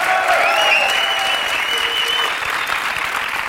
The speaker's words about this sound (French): On peut l'applaudir encore un peu plus, je crois qu'il la mérite.